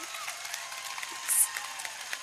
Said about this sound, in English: I really appreciate the applause. Like, keep it coming. Keep it coming. It makes me feel good.